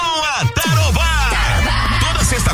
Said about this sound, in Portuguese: Fala aí, galera da obra. Tá na hora de dar aquela pausa e soltar o grito. Churrasqueando na obra.